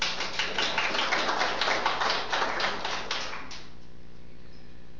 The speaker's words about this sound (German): Für den frischen Lobpreis habt ihr schön gemacht. Gebt ihnen nochmal Applaus, komm.